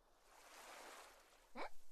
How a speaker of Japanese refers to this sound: やだ、せっかくこんなに綺麗な波の音なんだもん。できればこのまま綺麗に録音してほしかったから。